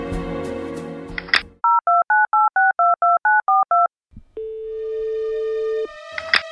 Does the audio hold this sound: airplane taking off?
no